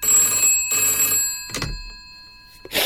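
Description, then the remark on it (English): An old-style telephone bell rings in two loud bursts with a short gap between them, followed by a clunk as the receiver is picked up and a brief rustle. “Whoever that was, they just rang to scream at me.”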